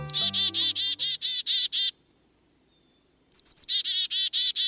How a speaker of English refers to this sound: An adult black-capped chickadee flies in toward its nest, carrying a beakful of fresh insects. Reaching a long-dead tree trunk, the bird disappears inside the nest cavity it's excavated with its mate and delivers the goods to the impatient chicks